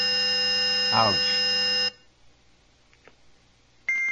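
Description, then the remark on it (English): A harsh, buzzy square-wave test tone plays steadily for about two seconds, and a brief exclamation is heard over it. The tone cuts off abruptly into near silence, then another tone begins. “13 kilohertz, square wave.”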